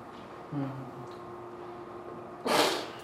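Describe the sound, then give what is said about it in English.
A single sharp, loud sneeze bursts out near the end, following a brief low, voiced sound and a stretch of quiet hum. “Bless you.”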